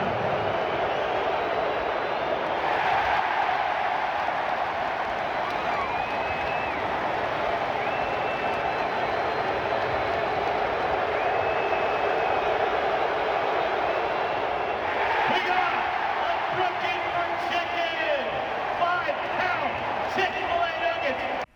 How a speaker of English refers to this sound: But he got the crowd cheering in Philly. This is why, though. Here's our clip. Ben Simmons will go to the line to shoot two.